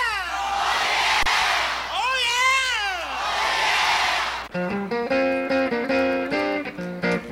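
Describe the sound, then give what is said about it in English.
A loud shouted voice calling "Oh yeah" echoes back in long, wavering calls that swoop up and down in pitch over a noisy wash, then gives way to steady, tuneful tones. “But first, I would like to hear my echo.”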